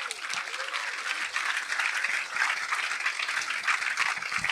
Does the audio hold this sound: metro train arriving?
no